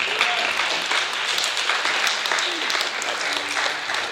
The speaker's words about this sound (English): Come on and clap your hands and bless the Lord.